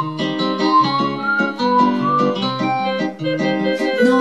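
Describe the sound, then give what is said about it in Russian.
A lilting whistled tune of a rubber hedgehog toy whistling through a hole in its right side plays on its own, a string of sustained, wavering notes moving up and down in a steady melodic rhythm, fairly loud, with no talking. “Ежик резиновый шел и насвистывал дырочкой в правом боку.”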